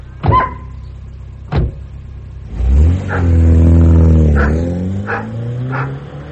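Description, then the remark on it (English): A dog barks a couple of times, then a police car's engine starts and revs up loudly, pulling away while the dog keeps barking intermittently over it. “Was that Ernest in the police car?”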